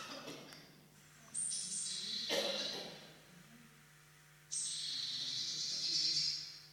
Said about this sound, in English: Doesn't sound happy. That's a warning call, I think, of a particular bird. Any ideas? Not a magpie, no. It's a little blue tit. Yeah. Wasn't happy. Probably, warding off predators or other birds.